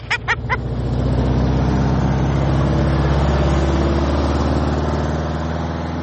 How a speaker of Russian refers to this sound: А кто там можно первый-то едет? О, 4-5 машин.